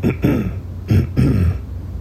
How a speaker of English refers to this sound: So we have to be able to clear the throat without drawing that much attention to people that are sitting this close to you. So you have to clear your throat gently. Listen to this sound.